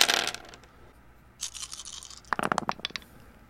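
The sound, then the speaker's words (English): A couple of black dice rattle and clatter across a hard surface for a perception check in a game, a brief scrape followed by a burst of sharp, bright clicks as they tumble and settle. Moderately loud, with no talking. “Just make it an average for Zahn, and I'm going to give A1 a couple black dice.”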